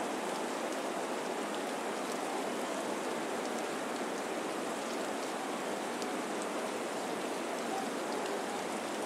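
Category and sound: nature, rain falling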